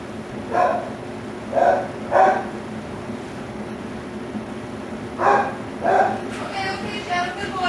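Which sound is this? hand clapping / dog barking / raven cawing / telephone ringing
dog barking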